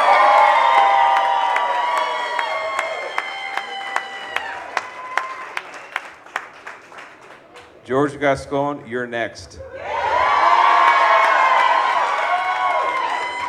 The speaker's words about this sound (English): A bit of applause.